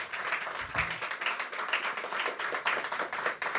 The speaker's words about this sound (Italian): Un applauso.